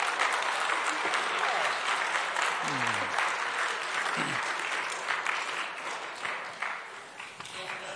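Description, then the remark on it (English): Steady applause from a church audience after a baptism fills the whole stretch, dense clapping that tapers slightly toward the end, with a couple of brief voices calling out underneath. “Yeah, applause is appropriate.”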